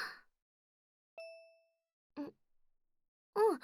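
A smartphone message notification chimes once, a single clear, bright ding that rings out briefly and fades, announcing a message from mother, followed by a couple of short, soft vocal sounds.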